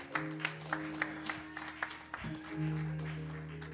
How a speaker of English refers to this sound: Man, don't stop clapping. Give her a real round of applause.